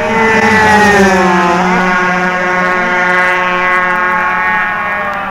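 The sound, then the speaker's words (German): A loud racing motorcycle engine roars with a buzzing, high-revving whine, its pitch sliding downward as it passes and then holding steady as it carries on. It is German rider Peter Eser's Honda production racer passing in a race with a stuttering engine. “Und jetzt kommt der deutsche Peter Eser mit stotterndem Motor seiner Honda vorbei.”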